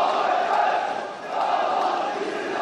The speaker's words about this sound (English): The shooting is over for now. Yet street demonstrations by government supporters continue in the districts across Istanbul and beyond.